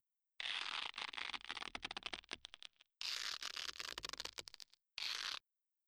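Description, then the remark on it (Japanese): Duct tape is pulled off a roll and wrapped around wrists to bind them, in three loud, crackling bursts: two long, ragged tearing stretches and one short final strip, with no talking. “まあいいわ、変なことをしないように手首をガムテープで縛るわね。”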